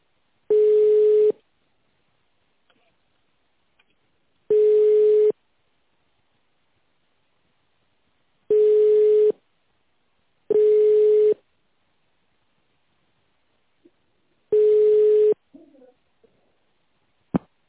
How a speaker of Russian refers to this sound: Много еще звонит там? Много еще звонит?